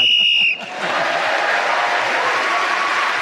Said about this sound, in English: In this game, whoever is speaking as the whistle goes gains an extra point.